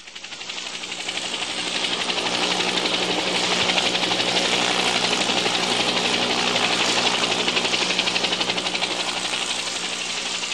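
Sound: helicopter flying overhead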